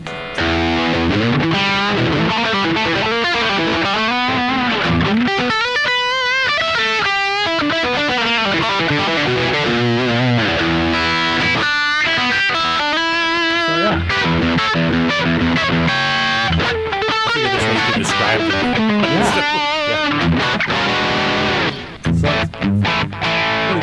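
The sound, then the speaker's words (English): Crunchy, overdriven electric guitar plays loud sustained chords and bending melodic phrases for the whole stretch, thick with gritty distortion and bright upper harmonics, with no one talking over it. A Friedman guitar made by Grover Jackson, with P90 pickups, played through a Dirty Shirley pedal. “To go all the way crunchy, here's the Dirty Shirley pedal.”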